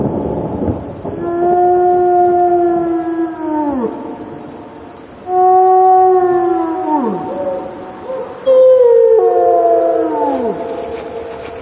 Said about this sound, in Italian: questa è una caccia dei lupi